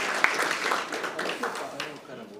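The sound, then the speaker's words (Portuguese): A round of applause at a commission session for the woman presiding over the commission: dense, rapid clapping that holds steady for a couple of seconds before easing slightly, with a murmur of voices mixed underneath. “Salva de palmas a nossa querida presidenta dessa comissão.”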